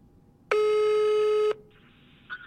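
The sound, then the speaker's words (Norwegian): A single loud, steady electronic ringback tone of an outgoing phone call, lasting about a second, with a bright buzzy harmonic texture, followed by faint line hiss and a brief soft blip. “Nå ringer jeg, ok?”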